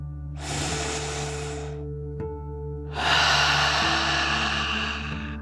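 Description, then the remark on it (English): A deep relaxation 'dragon breath': air drawn in through the nose to fill the lungs, a brief pause, then a longer, louder exhale pushed out through the mouth, clear with no talking. “You'll breathe in through your nose, filling up your lungs, and then out through your mouth, pretending you are breathing fire like a dragon.”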